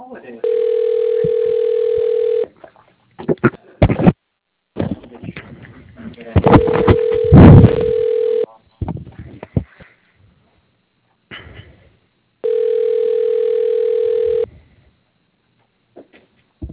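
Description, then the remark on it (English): A telephone ringback tone rings three times while a call is being transferred to an extension, each steady two-second burst separated by pauses, with bursts of talk between the rings. “To repeat this menu, please hold while your call is being transferred”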